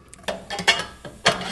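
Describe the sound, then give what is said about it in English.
A few sharp mechanical clacks and pops sound in irregular succession from a microwave-sized office autoclave that heats and pressurizes surgical instruments to 250 degrees and then releases the pressure, ending with one louder metallic pop as the front door springs back into a curved position. No one speaks. “This machine pressurizes and heats our instruments up to 250 degrees, and then we release the pressure, and then that last popping sound is when the door on the front pops back into a curved position rather than a flat position, which seals in the”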